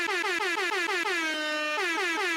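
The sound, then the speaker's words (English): A rapid series of loud air horn blasts, played to announce award winners, stuttering in quick pulses before a sustained honk, then more short bursts, blaring with no talking. “I need some air horns or something because we got to announce the winners of the Choppies.”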